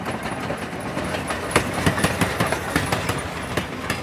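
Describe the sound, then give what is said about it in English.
A train rumbles past at a train station, a loud continuous roar with a steady, rhythmic clatter of wheels over rail joints growing more distinct as it goes. “They stood for a while until they heard the roar of a train approaching.”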